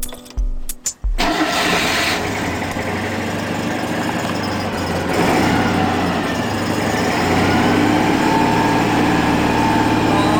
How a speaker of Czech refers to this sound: Mislim da bi mogla da vodim program satima i satima uz zvuke turiranja spačaka u garaži.